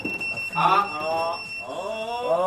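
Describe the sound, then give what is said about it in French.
Steady, high electronic alert tones ring continuously from several pagers at once, signalling a callout, sounding throughout while a person talks over them. “Et vous avez entendu qu'il y a des bips ont sonné, donc ça veut dire qu'il y a une intervention.”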